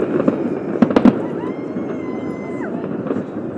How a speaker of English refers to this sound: But it's just explosions of colour, red and white and green going off.